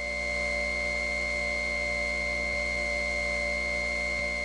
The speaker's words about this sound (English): Soft dial tone, jet engine-like whining. Yes, this of course is the Lakewood Central Office Market Step.